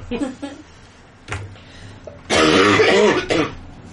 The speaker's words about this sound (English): And now I've officially laughed so much that I'm sending myself into coughing fits, and it's awesome.